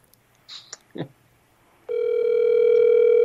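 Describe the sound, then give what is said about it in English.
A telephone line ringing: after a few brief clicks and rustles, a steady, buzzy electronic tone starts and holds at an even level until the end, with no talking over it. “It's ringing.”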